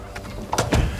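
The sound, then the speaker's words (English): A door is pushed shut, a short scraping slide followed by a heavier thud, with a low rumble in the background and no voices. “Shut the door.”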